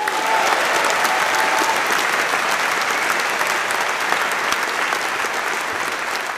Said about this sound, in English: I'm fucking thrilled you made it, sir. Round of applause.